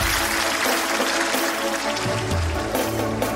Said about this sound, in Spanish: Y un aplauso para Paracas, de verdad. Muchas gracias, gracias Paracas, ¿eh? Muchas gracias.